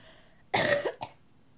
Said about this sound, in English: I have a cough.